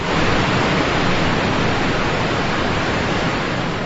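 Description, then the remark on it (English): Niagara Falls, including the American Falls and Horseshoe Falls on the US–Canada border, roars as tens of thousands of cubic feet of water flow over each second, a steady, dense rush of crashing water, loud and unbroken from start to finish with no voices or other sounds. “That thundering crash is the tens of thousands of cubic feet of water that flow each second over Niagara Falls, which includes the American Falls and Horseshoe Falls.”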